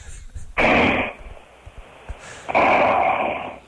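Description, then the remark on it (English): A voice imitates the obstructed snoring of a man whose airway obstructs when he breathes: two loud, rough, noisy rasping bursts, each lasting about half a second to a second, separated by a quieter pause with faint breathy sounds. “I'm amazed at the guys who snore too, on how much variation there is in even like a 30-second period.”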